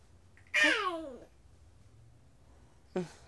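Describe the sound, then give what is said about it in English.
A cat meows twice: a long, drawn-out meow that falls in pitch, then a quieter, shorter meow a couple of seconds later, with no talking over them. “You know, pet Pepper.”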